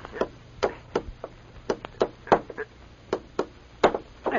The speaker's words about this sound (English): There goes the tack. Let me tack that up for you, Sheriff. I got a longer reach than you have. Well, thanks, stranger. It's mighty kind of you here. Yeah, right. Hey, give me the hammer and tacks. Yeah, gladly. Have it up in a jiffy.